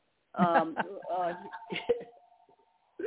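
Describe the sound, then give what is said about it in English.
A telephone rings with a steady electronic tone, held for over a second while a voice speaks over it, then trails off before talking resumes. “I was distracted by phone ringing that I hadn't expected to ring.”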